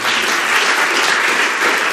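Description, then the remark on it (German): A crowd claps steadily throughout, a dense, continuous wash of many hands applauding with no pauses or talking, after children have sung a song together. “Einen dicken Applaus, ja?”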